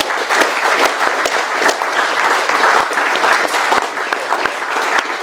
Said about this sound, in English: Yeah, let's give Ruth a round of applause again.